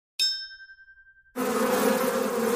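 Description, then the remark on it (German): A bright chime rings and fades, then a dense, steady swarm of bees starts buzzing, loud, droning continuously like the inside of a busy hive. “In der Unternehmens-IT geht es zu wie im Bienenstock.”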